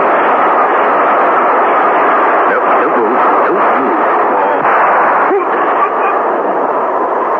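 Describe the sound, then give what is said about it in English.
A train screams through a station in a loud, unbroken roar that holds steady for the whole clip, with faint shifting screeches riding on the rumble and no voices. “As the train screamed through the station, the revolver shot that killed Mark Lucas was not heard.”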